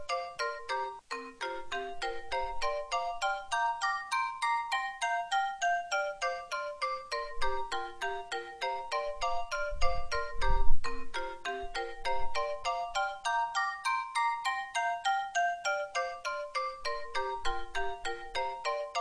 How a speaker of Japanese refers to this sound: 電話来た、びっくりした。